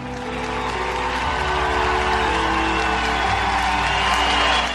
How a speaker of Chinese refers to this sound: 林肯讲话结束之后，听众好几分钟热烈鼓掌，然后开始散去。